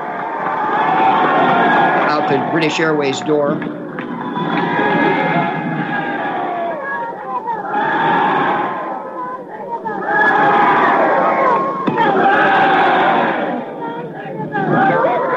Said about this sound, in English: You hear them cheering their prime minister